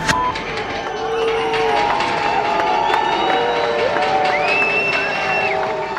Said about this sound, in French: Lundi 1er mars 2004. Il y a foule ce matin devant la cour d'assises d'Arlon, petite ville du sud-est de la Belgique. 1300 journalistes venus du monde entier, 300 policiers, une vingtaine d'avocats, 12 jurés des familles en deuil et 4 accusés.